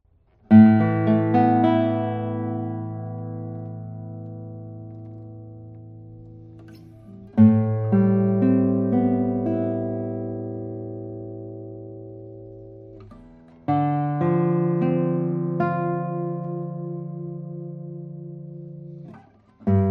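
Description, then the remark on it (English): A 1976 acoustic guitar, number 344, with a spruce top and Indian rosewood back and sides: chords strummed one at a time, three full strums each left to ring out with long, slowly fading sustain, and a fourth just starting at the end. No voices. “Let's play a few tones on it.”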